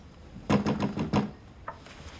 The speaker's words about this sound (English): Bill knocks on Sarah's window.